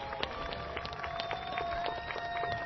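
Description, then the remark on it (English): An audience at a low-wage workers' rally in Kansas City claps steadily for a few seconds as an Episcopal reverend is called up to speak, a dense patter of many hands at moderate loudness with a faint sustained tone running underneath and no one speaking. “can I get a round of applause for Reverend Susan McCann?”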